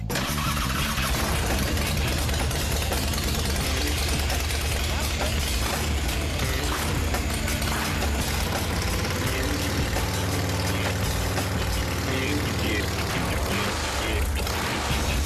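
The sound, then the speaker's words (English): A motorcycle with a custom-built exhaust idles loudly and steadily, its exhaust giving a deep, throbbing rumble that holds constant throughout with a slight rev near the end. “Pretty much, we got the bike fired up. It sounds great. It's nice and loud, just like we hoped, with the exhaust the way we did it.”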